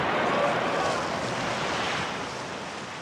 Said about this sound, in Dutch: Het wordt een hevige vecht tegen de wind. De Halve Maan stijgt op de hoge golven.